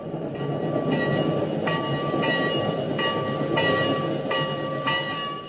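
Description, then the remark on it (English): A locomotive bell clangs steadily, about twice a second, its bright ringing tone heard over the continuous low rumble of a train, with no voices. “and see them in their seats, and the porter waiting to close the door, and that lovely bell on the locomotive keeps ringing, ringing.”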